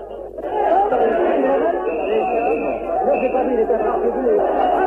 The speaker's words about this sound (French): La foule crie en ce moment à mort à l'assassin. La minute est épouvantablement bouleversante.